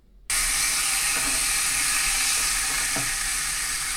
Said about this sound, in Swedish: Det var när man steker ägg. Man har ju det här lite fräsandet.